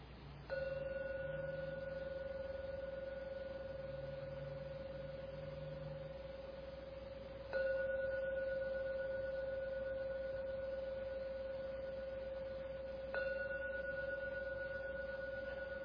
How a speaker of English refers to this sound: Unfortunately, I have to ring the gong now, so please listen to the ringing of the gong 3 times, and the last ring of the gong come out from your meditation.